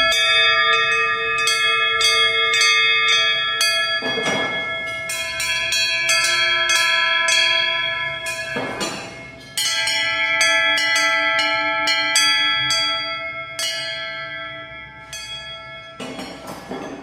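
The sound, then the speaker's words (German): Several large cast bells, tuned to one another, ring and chime together in a dense, overlapping peal, their sustained tones blending harmoniously with repeated fresh strikes; loud, no voices. “Und noch vorher natürlich zuerst einmal eine Ohrvoll Glockenklänge und Gebimmel genommen.”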